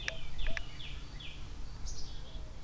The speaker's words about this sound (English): Little birds are freaking out.